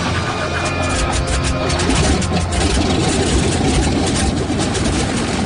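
A C-46 aircraft's big radial piston engine, cranked over for a flight, runs at a steady, loud idle, its deep rumbling drone and rattly throb holding constant throughout with no voices.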